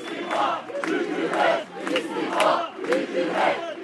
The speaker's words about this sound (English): Once the organizers finished explaining the ins and outs of the Gezi Park offer, the crowd responded with one of its favorite chants, perhaps not precisely on point.